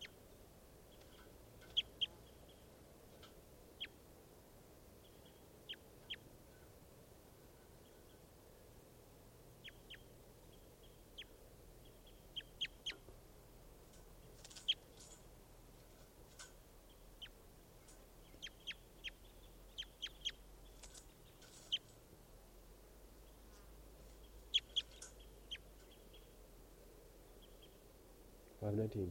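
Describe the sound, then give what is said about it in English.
A bird, recorded as bird 519, gives short, high, chirping calls again and again at irregular intervals, sometimes in quick clusters, over a steady low rumble and hiss of background noise. “Recording bird 519 again.”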